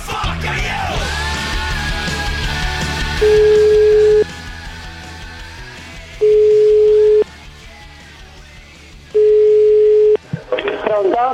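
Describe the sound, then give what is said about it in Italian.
A telephone line tone sounds as three steady one-second beeps, evenly spaced about two seconds apart, loud and clear over a murky background hum, with a brief rustle at the end. “Telefonatina, telefonatina rapida, telefonatina rapida, telefonatina, vai.”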